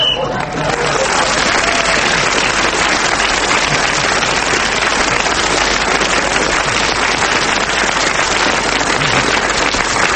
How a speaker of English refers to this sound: I don't know why you're clapping that, but Clement Freud kept going till the whistle went and has increased his lead even further.